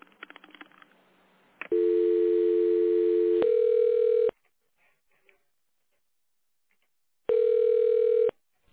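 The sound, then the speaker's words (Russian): Telephone tones while an extension is dialed in tone mode on a call to the Severo-Zapad holding company: a few quick clicks and beeps, then a steady, loud, low-pitched tone, followed after a pause by another one-second tone. No one speaks. “Пожалуйста, наберите в тональном режиме внутренний номер абонента или дождитесь ответа секретаря.”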